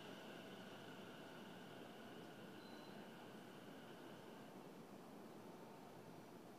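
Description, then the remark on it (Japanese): An out-of-service train departs from a station, with a steady roar of rolling noise and faint electric motor whines that fade as it moves off. No one speaks. “回送電車が発車します。ご注意ください。”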